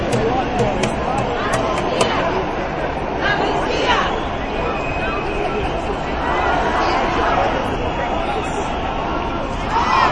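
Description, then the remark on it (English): A protest crowd yelling: a loud, dense roar of overlapping voices that holds steady for the whole stretch, with scattered sharper shouts and clatter poking out of the din. “The yelling.”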